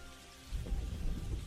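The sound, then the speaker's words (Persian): Steady rain falls in a broad, continuous hiss, with low rumbling swells suggesting thunder. The downpour is moderately loud, with no voices. “لحظه‌های بارش باران رحمت الهی، لحظه‌های باز شدن درهای اجابت، باید قدر این لحظه‌ها را بدانیم.”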